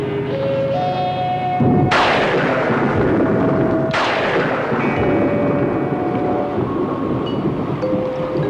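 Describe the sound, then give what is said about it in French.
Two violent thunderclaps crack out a couple of seconds apart, each trailing into a loud, rolling rumble, over a steady bed of sustained musical tones and no voices. The weather has abruptly changed into a sudden storm, with violent lightning flashing in the sky. “Juste au moment où le naufragé est monté à bord, le temps a brusquement changé. Et un violent éclair a éclaté dans le ciel.”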